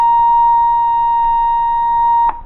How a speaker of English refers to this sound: That is 1,000 cycles, or 1,000 vibrations per second, stripped of all harmonics.